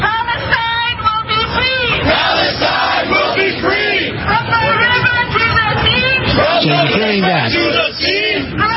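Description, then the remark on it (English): A large crowd in Times Square, New York City, chants the protest slogan "From the river to the sea", many raised voices shouting together in a loud, continuous rhythmic din, with street traffic faintly underneath. “I want you to hear one more clip. This again from Times Square in New York City.”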